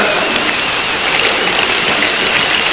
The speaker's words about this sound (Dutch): Wat is dit? Een overstroming, ja. Hij vloeit helemaal over deze kam. En deze wordt leger trouwens, maar...